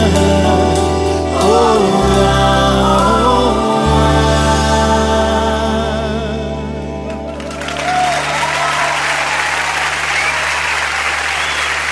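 A sustained musical chord with bass fades out, then loud, steady audience applause breaks out and fills the remaining seconds with dense clapping.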